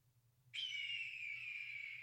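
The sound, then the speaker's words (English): A red-tailed falcon call: one long, loud, high-pitched scream that starts abruptly and slowly sags in pitch, holding steady over a low, constant hum with no voices. “That is a falcon. Go back. That's a red-tailed falcon.”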